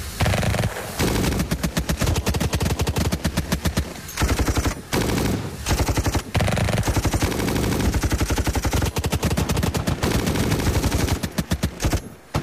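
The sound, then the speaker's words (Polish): Sustained heavy gunfire with rapid automatic bursts and overlapping shots, loud and dense throughout, broken by a few brief pauses before resuming, as attackers fire at the third wagon of a stopped train and the Germans aboard defend themselves. “W chwili rozpoczęcia strzelaniny podchorąży Stefanowski i jego koledzy Cichy, Gajek i Gotów próbowali wysadzić drzwi wagonu pocztowego.”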